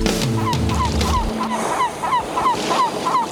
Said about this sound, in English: The waves in the distance can't be seen, seagulls in the sky are crying keen.